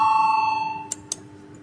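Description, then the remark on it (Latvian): A single bright bell tone, rung to call a vote among deputies, rings out from the start with a steady, shimmering pitch, slowly fading over a second, followed by two quick sharp clicks. No one speaks. “Lūdzu, zvanu.”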